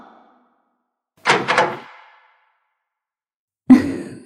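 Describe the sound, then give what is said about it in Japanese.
A door is unlocked with two quick rattling clicks, then after a short silence it swings open with a heavier thunk that trails off. No one speaks. “やっと鍵を開けてくれた。”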